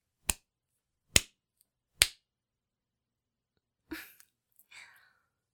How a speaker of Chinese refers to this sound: 主人是不是应该给你鼓鼓掌啊？